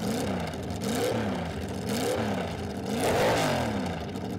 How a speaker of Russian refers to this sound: И сейчас мы буквально пару секунд послушаем звук двигателя Chrysler Firepower объемом 6,1 литра.